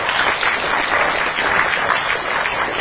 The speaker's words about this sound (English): I think the people from the CDC are fucking heroes. Okay? They fucking rock. Go ahead and applaud.